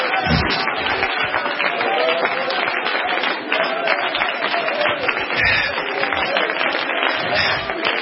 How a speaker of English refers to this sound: Everybody in the house. Come on. Come on. Let's praise Him. Let's praise Him. Somebody shout aloud. Clap your hands.